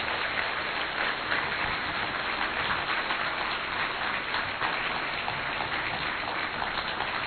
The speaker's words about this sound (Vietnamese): Xin mời các anh chị trong hội thiện nguyện ICAN. Và xin quý vị cho các anh chị một tràng pháo tay.